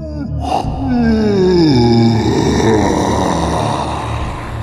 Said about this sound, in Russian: Потом сам завалился на груду звериных шкур и сладко зевнул.